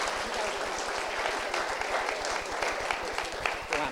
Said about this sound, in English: Hey, give these kids a round of applause.